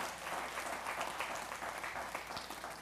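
audience applause

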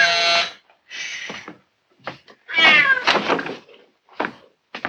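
kitten meowing

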